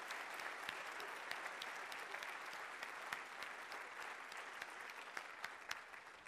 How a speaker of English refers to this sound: Put your hands together and give a loud clap offering to the living Lord of the head of this church, Jesus Christ.